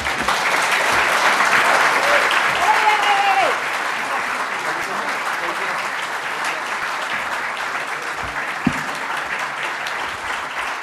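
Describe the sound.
Sustained applause from a large audience fills the whole stretch, a dense steady clatter of clapping that eases slightly partway through, with a brief voice-like tone rising above it early on.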